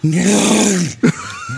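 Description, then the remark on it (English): A person growls out a deep, rough roar, trying for a tiger sound that comes out more like a bear, one sustained guttural bellow lasting most of a second, followed by a short loud burst and softer voice sounds. “that's more of a bear.”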